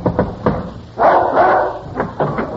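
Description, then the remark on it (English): A dog named Homer barks as a trick at a door after a knock, several times in a quick, uneven series of sharp, mid-pitched barks, with one longer, louder bark in the middle. No one speaks. “When I knock, I want you to do this trick just like I taught you.”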